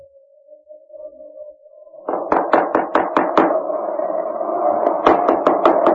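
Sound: knocking on a door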